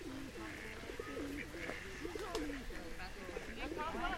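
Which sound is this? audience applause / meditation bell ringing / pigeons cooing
pigeons cooing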